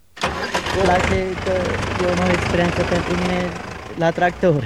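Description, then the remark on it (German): A tractor engine starts up and runs loudly as it is driven in the small village of Boju, Romania, its steady chugging rumble filling the whole clip while people speak over it. “Traktor fahren, das tue ich am liebsten”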